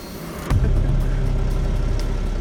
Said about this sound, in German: 2 Tage lang beobachten wir, wie nachts im Minutentakt Autos aufs Gelände fahren. Auf der Terrasse der Tankstelle lauschen wir Gesprächen, sehen, wie immer wieder Fahrzeuge von der Tankstelle aus an Ampeln stark beschleunigen, abbiegen und wegzischen.